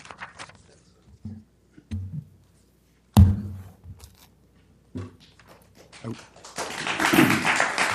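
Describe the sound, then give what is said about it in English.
Scattered sharp taps and knocks at a commission meeting, then a swell of clapping from the audience after a public comment builds toward the end, dense and fairly loud, with voices murmuring underneath. “Folks, if you wish to express, you can wave your hands like that, but no clapping, please.”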